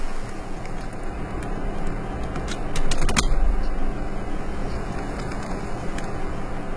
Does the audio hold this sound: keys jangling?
yes